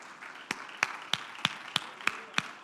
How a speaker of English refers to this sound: All over this house, clap your hands to the Lord.